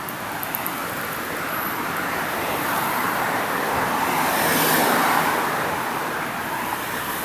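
Steady road traffic roars, a broad rushing hiss of cars, with one vehicle swelling louder as it passes before the noise settles back to a constant wash.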